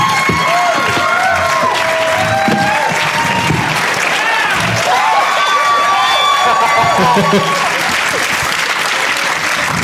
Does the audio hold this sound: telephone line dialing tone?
no